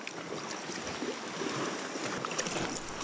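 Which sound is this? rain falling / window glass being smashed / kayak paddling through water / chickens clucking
kayak paddling through water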